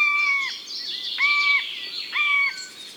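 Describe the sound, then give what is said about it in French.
A bird mimics a buzzard's call: three drawn-out, whistled mewing notes that drop at the end, repeated at a steady pace over a background of busy chirping. “Et là, il imite un rapace, une buse.”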